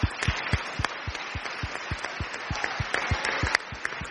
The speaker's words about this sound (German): Nochmal einen Beifall für euch alle.